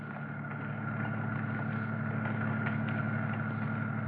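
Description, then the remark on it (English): A roadster's engine idles steadily at the city dump at the eastern limits of Huntington Beach, a continuous low, even rumble with a faint rhythmic throb that holds at the same level throughout, with no voices. “Kill your motor and we'll get busy.”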